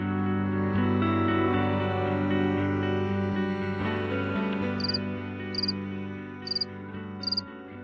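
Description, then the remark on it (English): A cricket chirps four times in short, evenly spaced bright trills near the end, clear above a steady, sustained musical drone that fills the background throughout. “Do you hear that? Marlene Zook from the University of Minnesota is here to talk about crickets.”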